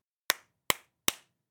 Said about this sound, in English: You're using your hands. You're clapping. Yes, I'm clapping with my hands.